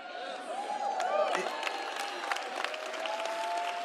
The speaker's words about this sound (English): What's the applause for? Is it Jim Baker? No, this is Kent Christmas.